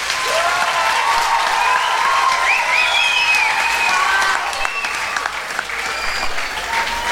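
A crowd applauds loudly and steadily for the technical crew, dense clapping filling the whole stretch with scattered whistles and cheers rising above it, then easing slightly toward the end.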